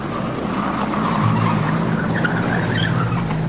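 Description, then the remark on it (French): Car tires screech and skid steadily as an engine revs hard, the vehicle pulling away fast. The squeal is loud, sustained for a few seconds with no voices. An SS car carrying Léon Blum and Jeanne Blum hurriedly leaving Buchenwald camp on the evening of 3 April 1945. “Ce soir-là, lui et Jeanne Blum sont embarqués par les SS dans une voiture.”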